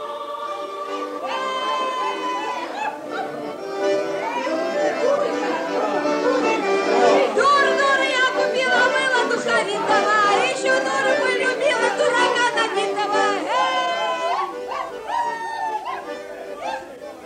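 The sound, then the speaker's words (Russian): A dense crowd of Usvyaty villagers gathered in front of the village office, crowding its porch and brick ledge in clusters, chattering at once, many overlapping voices forming a steady, loud murmur throughout, with occasional higher calls and a dog's yip now and then. “Перед конторой уже набрался усвятский люд. Люди облепили крыльцо, кирпичную заваленку, толпились кучками.”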